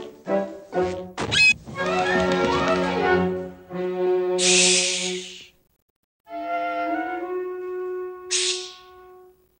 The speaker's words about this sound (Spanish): Mudito, que va el último, cierra la puerta asustando a los demás.